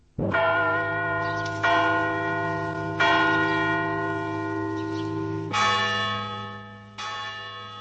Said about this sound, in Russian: Ударяет колокол над головой крупными ударами, но подменный, жестяные какие-то удары вместо полнозвучных, глубоких. Колокол звонит, объявляя крестный ход.